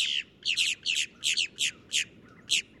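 A boat-tailed grackle gives a series of about eight harsh, raspy, high-pitched calls in a steady rhythm, each a short doubled burst, loud and clear with no talking.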